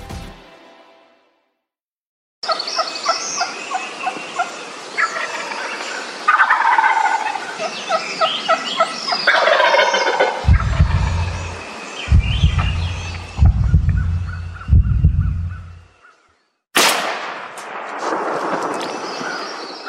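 Wild turkeys gobble repeatedly, loud rattling warbled calls overlapping one another, with a run of deep booming thumps in the middle and a harsh noisy burst near the end.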